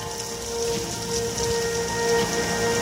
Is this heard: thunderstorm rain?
yes